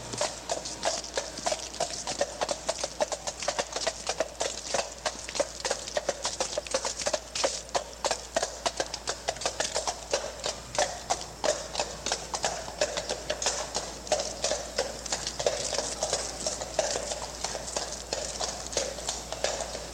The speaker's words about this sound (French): Sabots de chevaux, Central Park, New York City.